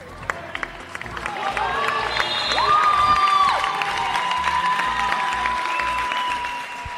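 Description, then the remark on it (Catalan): At the end of a Saturday afternoon Segona Catalana basketball game between Les Franqueses and Tona, fans and players applaud together in a dense, steady patter of clapping that swells slightly midway, with crowd voices and a few high, sustained whistle-like tones over the top. “Aplaudiments tant dels aficionats com dels jugadors.”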